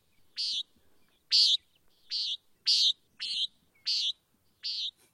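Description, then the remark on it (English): Seven short, buzzy nasal calls of a common nighthawk, evenly spaced about every two-thirds of a second, clear against an otherwise quiet background. “So if you're seeing funky dinosaur-like birds flying in the sky, these are nighthawks, and this is what they sound like.”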